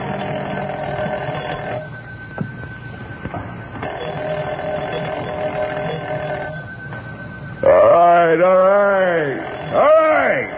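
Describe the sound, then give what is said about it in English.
A telephone bell rings insistently in several long bursts with short pauses between them, steady, at almost 2:30 in the night, then a voice begins speaking near the end as the ringing stops. “I was almost an hour trying to get to sleep when the phone rang, and I looked at my watch.”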